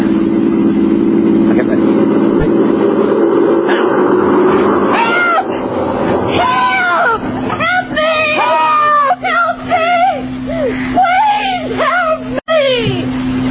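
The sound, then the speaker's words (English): A low car rumble passes overhead, then several people yell together as loud as they can, loud, drawn-out yells rising and falling in overlapping cries over several seconds. “When it's right above us, let's try yelling all together as loud as we can.”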